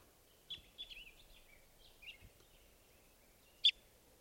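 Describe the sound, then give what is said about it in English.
A recording of bird number 517 plays as a series of thin, high chirps and warbling notes, followed by a sharper, louder chirp near the end, over a low background hiss. “This is bird 517.”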